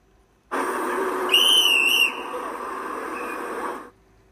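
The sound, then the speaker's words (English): A man blows a single shrill whistle blast, under a second long with a slight warble, over a steady rushing background noise that continues on after it stops. “The man blew his whistle again.”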